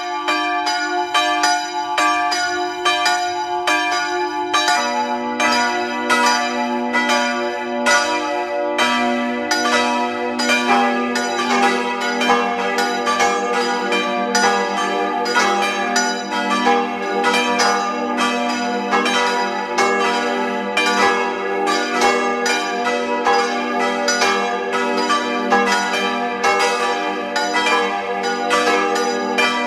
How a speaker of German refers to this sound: Es ist 12 Uhr. Sie hören die Glocken der Pfarrkirche Maria im Elend in Tattendorf, Niederösterreich.